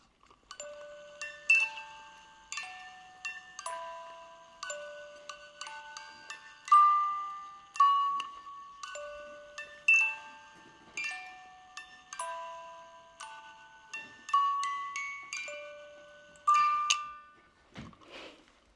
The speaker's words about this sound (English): And the music box spins, and the little birds all spin around on a little green turntable as the music is going. This is a song that you encountered first on the music box without lyrics, just the tune being played.